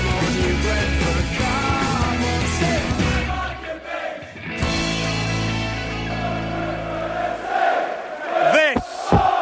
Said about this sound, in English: And as you can hear, the Brentford fans are cheering now. We're coming into the very last moments of the game at New Griffin Park. And it's Brentford's first game in the Premier League,